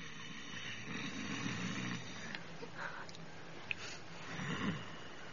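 loud snoring

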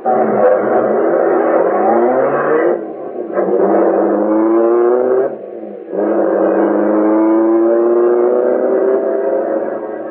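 getaway car accelerating away

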